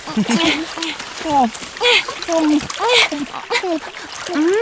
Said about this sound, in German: Das sieht aber lecker aus. Eine echte Wasserquelle.